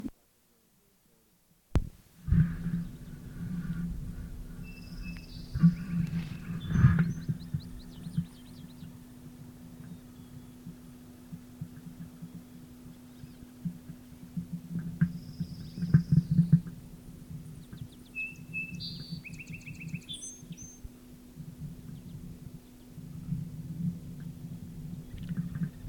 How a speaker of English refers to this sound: Calls by male rufous, probably passing hummingbirds.